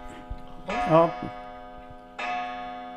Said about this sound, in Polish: No, pozwoliliśmy zegarowi przemówić. Piękny zegar,